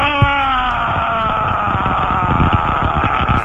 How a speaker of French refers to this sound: Allez, vas-y, crie avec moi, je veux que tu sois un supporter, là, vas-y.